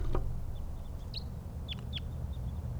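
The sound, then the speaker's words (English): Several short, sharp chip calls of wild type 2 crossbills flying around a net with decoys, high-pitched and fairly faint, come in scattered ones and twos over a steady low rumble of background noise. “More wild birds, more type 2s around.”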